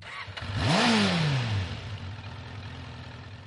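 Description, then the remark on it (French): A small scooter engine revs up sharply, then its pitch sags and falls away into a weak, uneven idle as the scooter breaks down, sputtering out. No voices. “Mon scooter tombe en panne et c'est la fin du monde.”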